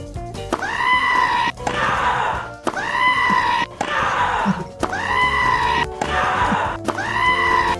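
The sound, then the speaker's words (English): A goat bleats loudly and repeatedly, a string of harsh, strained, scream-like cries in quick bursts with brief gaps between them. “Goat, please.”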